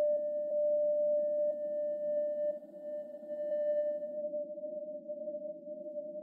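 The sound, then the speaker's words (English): A steady, unbroken ringing tone like tinnitus holds one pitch throughout, with a faint higher overtone and a low, rumbling noise bed beneath it. No voices are present. “I've got this ringing in my ears.”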